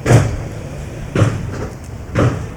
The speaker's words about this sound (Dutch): Inmiddels is een tweede breekploeg bezig om de deur open te krijgen. Hij is flink goed gebarricadeerd,